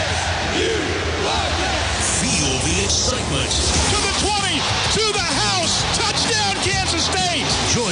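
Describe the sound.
A huge stadium crowd roars and chants together, a dense, loud wall of many voices with overlapping shouts rising and falling steadily throughout.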